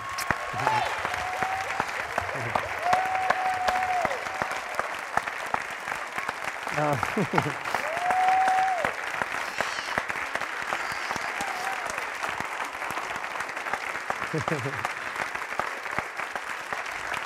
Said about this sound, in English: Now you can clap.